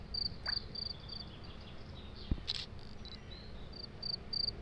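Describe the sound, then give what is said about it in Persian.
A grasshopper chirps close by in repeated short, high-pitched pulses, stopping and starting in bursts over a steady low background rumble, with one brief knock partway through. “من میخوام از این ملخه اکس بگیرم.”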